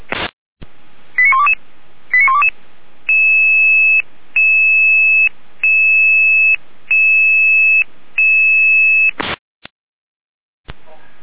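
German emergency dispatch radio alerting tones in Weimar: a squelch burst, two quick chirping tone sequences, then six steady, evenly spaced electronic tone blocks, closed by another burst of radio static.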